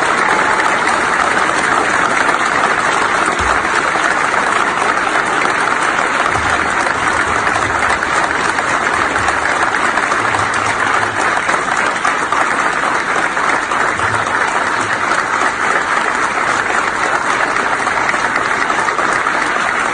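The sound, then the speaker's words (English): A standing ovation: a large audience of military personnel in an auditorium applauds loudly and steadily, a dense, unbroken wash of clapping that holds at full strength without fading or pausing, going on for a minute and 12 seconds, recorded on a phone camera. “Let me just say, you can't see, but it is a standing ovation.”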